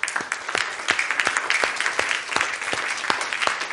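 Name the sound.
audience applauding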